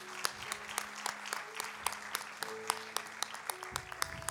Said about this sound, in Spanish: Todo el pueblo dice amén, amén. Dale un fuerte aplauso al Señor, claro que sí.